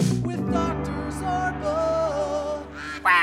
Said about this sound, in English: Oh, you love that quack. I do like it.